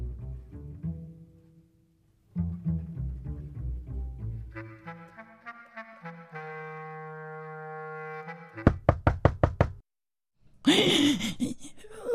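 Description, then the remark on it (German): A quick run of about five sharp, evenly spaced, loud knocks on a wooden door, following a stretch of humming tones and cut off by a breathy noise. “Rotkäppchen, bist du es? Komm herein, die Tür steht offen”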